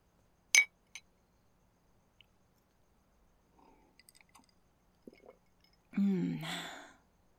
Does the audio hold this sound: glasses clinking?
yes